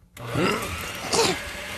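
A kitchen blender, used to make Palatschinken, starts up and runs with a steady, harsh whirring roar and a faint motor whine, surging louder twice as it spins. No voices.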